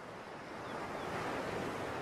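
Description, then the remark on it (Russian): Small ocean waves wash steadily onto the wet sand of a nearly deserted beach in the morning, a soft continuous hiss of surf that swells slightly louder toward the end, with no voices present. “Небольшие волны ласково ласкали мокрый песок на берегу. Океан манил к себе.”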